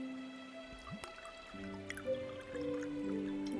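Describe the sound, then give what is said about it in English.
Wine poured from a bottle into a glass, a steady glugging trickle whose pitch rises as the glass fills, with a few soft drips and no voices. “I see my servants have already brought up a bottle of wine. Care to do the honors?”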